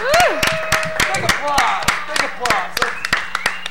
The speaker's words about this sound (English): Big applause.